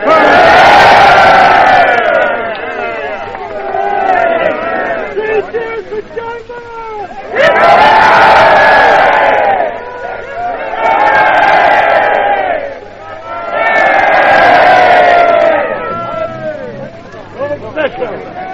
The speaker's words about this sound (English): Now you can hear the cheers and the cries of well done, Mr. Chamberlain, and three cheers for Neville and various things like that.